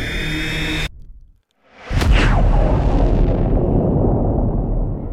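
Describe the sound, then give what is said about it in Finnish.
After a steady droning hum cuts to near silence, a massive explosion in the stern of the ship Ilmarinen erupts with a sharp crack and deep booming roar that rumbles on and slowly fades. “Laivan peräosassa oli tapahtunut valtava räjähdys.”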